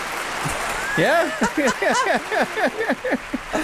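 A brief applause sound effect, played during a phone call by tapping the clapping button: steady, dense clapping lasting a few seconds, with rising and falling cheers and whoops from a crowd layered on top.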